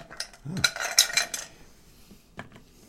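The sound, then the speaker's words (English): A cocktail being stirred over large ice cubes: a quick flurry of bright, glassy clinks for about a second, then a few scattered lighter taps as the stirring slows. “We're stirring this drink. We're not shaking it.”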